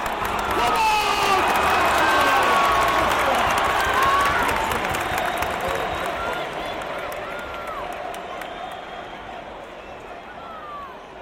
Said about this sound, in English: What does football sound like? Football is a roar. It is chanting and singing, clamour and yelling.